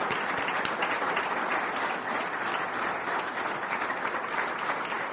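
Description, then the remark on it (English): A large audience claps continuously, a dense, steady wash of applause that stays loud and even throughout, with no voices rising above it. “So let's give her a round of applause in absentia for her courage and for her happy ending.”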